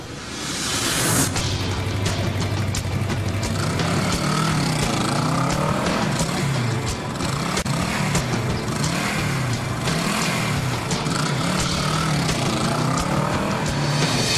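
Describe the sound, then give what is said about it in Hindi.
A car engine rumbles loudly, its pitch rising and falling as the vehicle drives in and maneuvers to a stop, parking beside a board, with steady road and wind noise and no talking. “गाड़ी उसने भी पार्क की है? बोर्ड के पास ही खड़ी की है,”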